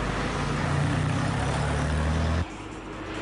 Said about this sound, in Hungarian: Ez ebből naponta több ezret lehet mondani, hogy áthalad ezen a településen, teljesen felgyűrve az utak, egymást érik az autók. Azok, akik szerettek volna gyorsan átutazni a városon, egyáltalán nem örültek a kígyózó autósornak.